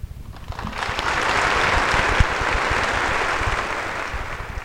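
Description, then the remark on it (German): Sustained audience applause for the writer Otto Gottsche on a Sunday in the Berliner Kongresshalle, Berlin, a dense, steady wash of many hands clapping that swells in the first second and holds at an even, loud level throughout, with no talking. “Der längste und herzlichste Beifall galt ihm, Otto Gottsche, dem ältesten unter den anwesenden Schriftstellern an diesem Sonntag in der Berliner Kongresshalle.”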